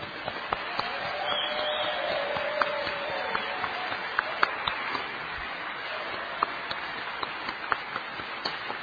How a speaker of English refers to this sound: On behalf of the panel, I'd like to say thank you to the audience, please. And one more round of applause for the great panel.